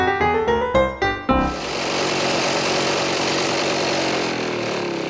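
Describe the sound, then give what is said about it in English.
A few quick sputtering bursts give way to a lawn mower engine roaring steadily and loudly as a lawn is mowed in summer, droning without a break to the end, with no talking. “Mowing the lawn in the middle of summer is a hot job.”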